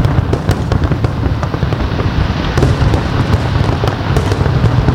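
Thousands of fireworks crackle and boom continuously over the Johannesburg skyline in South Africa, greeting the New Year 2025, a dense barrage of overlapping bursts and sharp pops with a steady rumbling wash, loud throughout and with no voices.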